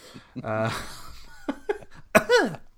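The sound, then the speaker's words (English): A voiced, drawn-out sound is followed by a few short, sharp coughs, with a final throaty burst that trails off like a laugh. “That wasn't last time how I cough.”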